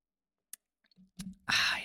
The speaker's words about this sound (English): So we're going to go over here. Hold on. I need a little sip of something here.